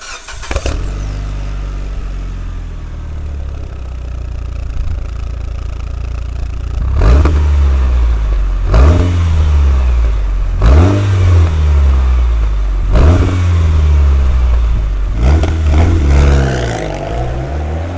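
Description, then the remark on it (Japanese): A Lancer Evolution VIII (GH-CT9A) with a Racing Titanium GD772R muffler fires up and idles, then its engine revs sharply about five times in a steady rhythm, loud, with no voices. “ランサーエボリューション8 GH-CT9A マフラーはレーシングチタン GD772R。”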